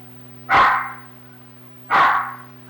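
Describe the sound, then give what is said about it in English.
A dog barks twice, loud, with a short gap between the two barks, over a steady low electrical hum and no talking. “Is he barking at somebody outside?”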